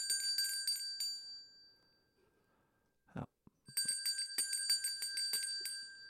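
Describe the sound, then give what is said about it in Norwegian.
Small bells jingle in quick clustered shakes, bright, pausing briefly while a voice says a single word, then jingling again in a busy, rhythmic burst. “Jeg skal riste litt på bjellene, holdt jeg på å si.”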